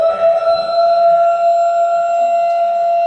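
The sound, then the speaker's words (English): A loud siren holds a steady, unwavering tone for the full few seconds, droning on without rising or falling, with no voices heard. “Siren? Siren.”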